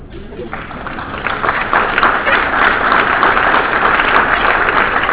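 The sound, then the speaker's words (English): An audience breaks into applause after a quoted line from Dr. King. The applause swells within the first half second, then holds as a dense, steady roar of many hands clapping, loud and sustained to the end. “I knew you guys would applaud.”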